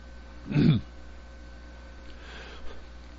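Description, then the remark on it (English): A single short, rough throat clearing bursts out, low and gravelly, then gives way to quiet background hum with a faint breath or two and no talking. “I've got to clear my throat.”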